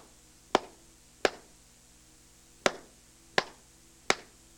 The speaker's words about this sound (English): I will clap a 4-beat rhythm. I will only use quarter notes and quarter rests. Each rhythm will be clapped 2 times.